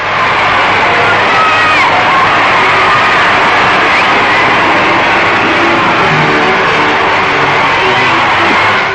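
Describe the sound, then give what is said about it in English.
A large street crowd, estimated at 60,000, cheers the Queen Mother as she stops for a civic reception at the city centre: a dense roar of many voices with scattered shouts rising above it, loud and steady throughout, with engine rumble underneath. “It was an auspicious beginning to the tour, with everyone cheering the royal visitor as she now stopped for the civic reception at the city centre.”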